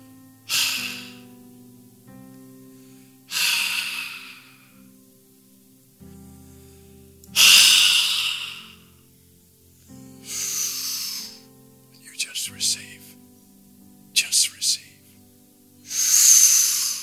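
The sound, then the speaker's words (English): Repeated forceful breaths blown hard into a microphone during a Christian sermon, breathing on listeners to impart the Holy Spirit: loud, airy hissing bursts about every three seconds, with a few short sharper puffs in between, over a faint low background hum. “And he said, he breathed on them and said, receive the Holy Spirit. That's what I'm doing right now in behalf of Jesus, who's doing the breathing from within you.”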